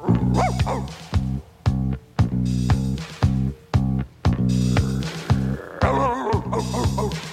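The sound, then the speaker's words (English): A dog barks over and over in a steady, rapid series of about ten loud barks, with a few high whining yelps mixed in near the start and end. “what are you barking at? What do you see?”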